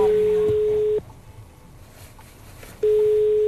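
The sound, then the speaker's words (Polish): A railway level crossing warning signal at the Papowo-Toruńskie Osieki crossing in Poland sounds a steady, loud electronic tone while a red light shows, cutting off for nearly two seconds before starting again, with faint background noise in the pause. “Na filmie widać czerwone światło. Jest też sygnał dźwiękowy.”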